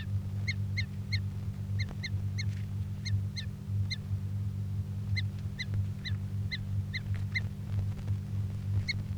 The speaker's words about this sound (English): Recording bird 338 being handled.